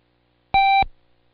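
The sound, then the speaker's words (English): A single steady electronic Morse code beep, one dash, sounds for about a third of a second at a clear mid-high pitch, loud and alone, then cuts off with a short fading tail. “Now close your eyes and listen to the code and see if you can say the sound alike before I cue you.”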